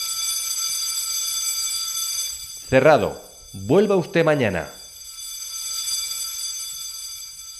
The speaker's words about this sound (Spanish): La alarma es la de su despertador.